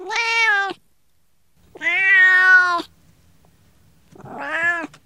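Three loud, drawn-out cat meows with pauses between them, the middle one longest and most insistent, with only faint background noise and no talking.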